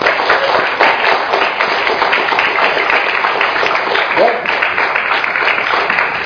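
An audience at a church service breaks into sustained applause for the worship team, a dense, steady wash of many hands clapping at once that holds at an even loudness for several seconds, with a few voices faintly mixed in.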